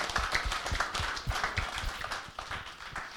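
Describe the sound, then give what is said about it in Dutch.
A crowd applauds steadily at an event, giving Paul Molenkamp and his team applause for the fantastic reception: a dense patter of many hands clapping at once, sustained for a few seconds with no voices over it. “Geef hem applaus voor de fantastische ontvangst.”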